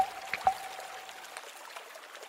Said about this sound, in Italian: Il loro coraggio diventa all'improvviso contagioso e pian piano tutti tornano indietro per gettare ciascuno acqua sul fuoco.